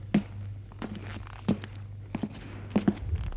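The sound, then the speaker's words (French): Footsteps of a man climbing worn, narrow stone stairs up three floors of an apartment building, in a steady, unhurried rhythm, about five soft thuds roughly every two-thirds of a second, over a low constant hum. “Il monte les trois étages.”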